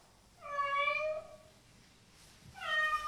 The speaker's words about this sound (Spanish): De repente escuchan un tímido maullido. ¡Ah! ¿Qué pasa? ¡Un maullido!